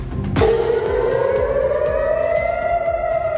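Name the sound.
air raid siren wailing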